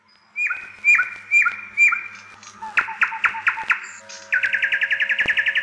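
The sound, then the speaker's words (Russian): A nightingale sings alone, recorded on the record «Голоса птиц в природе» compiled by Moscow State University's biology and soil science faculty, moving through distinct phrases: several repeated whistled notes, then a faster series of sharp chirps, ending in a rapid, rattling trill. “Давайте вспомним, как поют самые лучшие в мире птицы-певуны, ну, конечно же, соловьи.”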